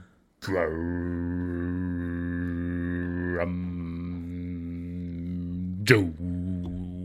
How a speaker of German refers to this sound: aber am coolsten ist natürlich wie heißt dieses Instrument, diese lange, nervige Röhre, Didgeridoo heißt das.